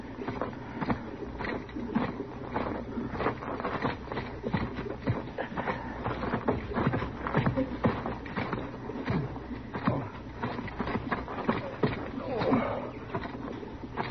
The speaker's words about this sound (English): Chester, you go bring the horses up.